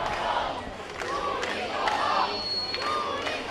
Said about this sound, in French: Touristes, rentrez chez vous, scande la foule.